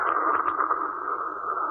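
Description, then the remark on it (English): A voice imitates a soda fountain by stopping the movement of a sawing-wood sound: a steady, breathy hiss held for under two seconds, fairly loud and even, with a slight flutter at the start and no talking. “Now, if we stop the movement, we've got a soda fountain.”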